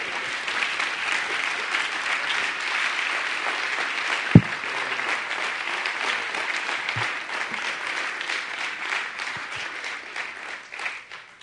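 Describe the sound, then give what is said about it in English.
An audience claps their hands in sustained, dense applause, giving a hand clap to the Lord and welcoming the pastor as he comes to bring the word. The applause stays steady and fairly loud for the whole stretch, with one sharp thump partway through and no voices over it. “Let's give a hand clap to the Lord tonight.”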